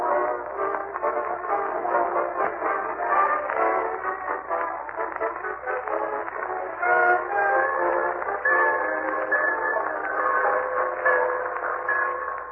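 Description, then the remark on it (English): A train rumbles and clatters steadily into the Summerfield Railroad Station, with sustained whistle tones sounding over the noise in the second half. Loud, with no voices. “He and Marjorie and Leroy wait in the Summerfield Railroad Station for the arrival of that well-known authoress, lecturer, and second cousin, Octavia Gildersleeve.”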